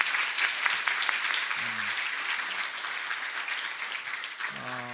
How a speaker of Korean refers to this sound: 예, 우리 성가대 아주 귀한 찬양을 감사드립니다. 여러분들이 보시기에도 참 그냥 준비한 게 아니라 그동안 연습이 참 많이 있었다라는 생각이 들지 않으십니까? 우리 성가대와 또 우리 지휘자님, 반주자님 모두를 위해서 한번 격려의 박수를 한번 해주시면 좋겠습니다.